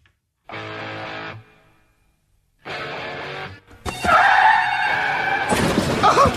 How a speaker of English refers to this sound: All right, let's get to our car wreck of the day.